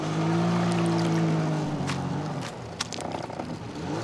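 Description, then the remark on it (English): A jet ski engine drones loudly while jet skiing at Lake Pleasant, Phoenix, its steady hum easing down in pitch, with water hissing and splashing around it. No one speaks. “I'm at Lake Pleasant jet skiing with my family.”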